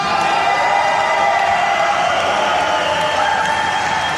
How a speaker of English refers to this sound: You know, I would take calls today, but all the radio audience is hearing is me talking and people cheering, and then because it would feed back, we're not running the feed of the audio out to this big auditorium